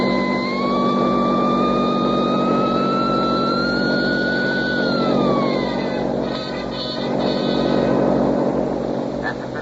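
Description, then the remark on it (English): A Studebaker sedan carrying four escaped convicts revs steadily higher for several seconds, its engine whine climbing before dropping off as it shifts and pulls away toward the west gate, loud over a rumbling background with no talking. “Kick that sign open and drive straight to the west gate.”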